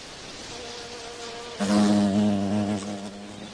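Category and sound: insect, bee buzzing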